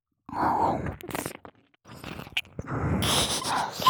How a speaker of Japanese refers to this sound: その上でさらに、お前の大好きな耳なめも追加して追い込みます。